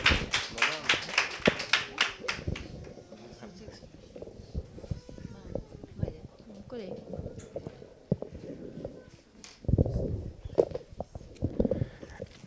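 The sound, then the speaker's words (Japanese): At a church service, a crowd bursts into applause to welcome a special guest, a dense patter of many hands at first that thins to scattered claps and shuffling, with voices murmuring underneath and a brief renewed swell near the end. “拍手を迎えください。”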